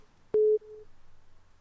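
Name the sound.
telephone ringing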